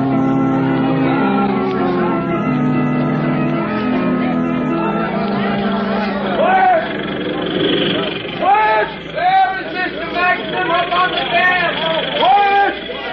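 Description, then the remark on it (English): Drilling machines run with a loud, steady droning whir of layered tones, joined after several seconds by rising and falling shouting voices over the continuous mechanical noise. “Stop those drills, I command you! Stop those drills!”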